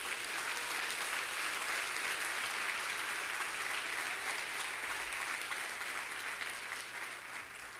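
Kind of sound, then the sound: crowd, audience applauding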